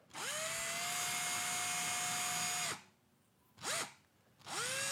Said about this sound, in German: Eine Drohne! Du fliegst gerade eine Drohne in deinem Haus, in deiner Wohnung.